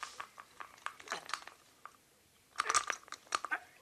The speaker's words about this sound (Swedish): Men hörru, det skramlar ju som en gammal spårvagn om det här ägget.